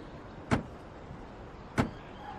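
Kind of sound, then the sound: household object, door being opened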